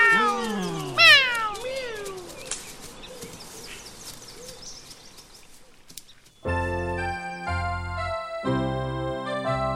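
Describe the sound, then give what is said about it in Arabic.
Two cats meow in quick, overlapping cries, loud and close, in the first couple of seconds. A quieter stretch follows, then music starts up and continues to the end. “أجل، عجبا، ليس قطا واحدا بل قطتان. قطتان، ما أوفر حظ اليوم.”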